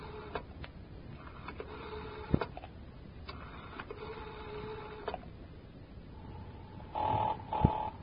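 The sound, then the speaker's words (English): A telephone is dialed with a few sharp clicks to call Breen's, then long buzzing ring tones repeat at a steady pace, followed by a brighter ringing burst near the end, clear with no talking. “But it all depends on how good I can sound on the phone.”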